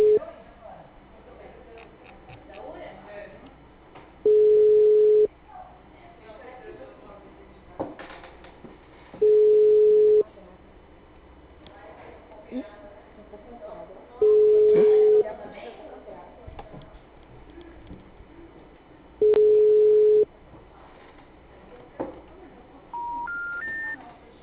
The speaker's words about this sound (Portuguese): O telefone encontra-se ocupado. Por favor, tente mais tarde. O número está ocupado.